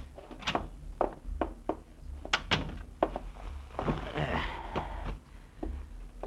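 door opening and closing

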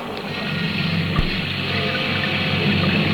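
heavy rain storm

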